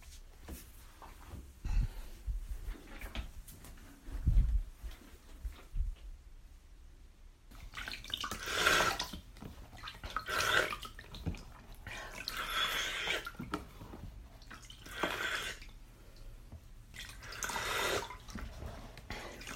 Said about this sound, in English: I magically pour it into the toilet and then at the end I flush it. So when you hear the big flush, that's not me peeing on this recording again.